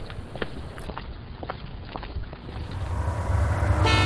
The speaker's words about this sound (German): Oh, hier kommen viele Busse vorbei.